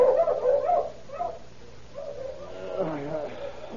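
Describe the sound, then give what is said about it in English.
A sheep rancher's dogs bark and yelp savagely outside a small trailer house in quick, ragged bursts, moderately loud, with a short pause midway before a longer, rising run of agitated barking and whining. “Suddenly, the savage barking of his dogs outside the little trailer house awakened him from his slumber.”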